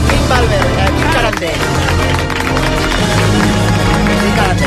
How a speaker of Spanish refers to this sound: A veure, un aplaudiment ara que entrarà, perdona, entrarà el xaval aquest